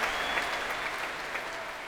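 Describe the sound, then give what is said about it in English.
Sustained applause and cheers from a large audience at a prom concert at the Royal Albert Hall: a dense, steady roar of clapping hands with some cheering mixed in, loud and continuous throughout with no voices speaking over it. “as you can hear, the applause echoing to the rafters here at the Royal Albert Hall”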